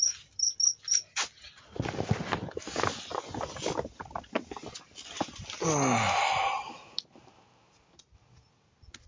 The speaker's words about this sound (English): Of course, once I get out of there, the cricket's a lot less prominent.